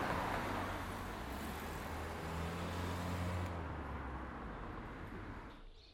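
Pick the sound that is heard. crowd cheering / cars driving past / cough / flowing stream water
cars driving past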